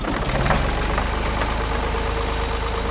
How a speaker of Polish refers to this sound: Odpalam silnik i ruszam w drogę.